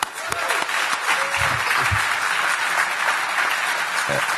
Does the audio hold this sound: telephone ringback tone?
no